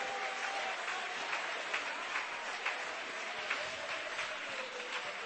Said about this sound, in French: Clap your hands to the Lord Jesus. Applaudissez le Seigneur.